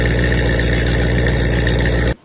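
A loud, throaty V8 car engine runs steadily, its deep rumble pulsing evenly for about two seconds before cutting off abruptly.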